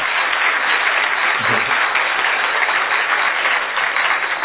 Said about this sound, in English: A big round of applause.